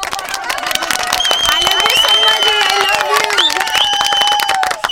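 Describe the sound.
A crowd claps and cheers steadily for about five seconds, dense rapid clapping filling the whole stretch, with excited voices and whoops riding over the top at a constant loud level, welcoming a guest on a show.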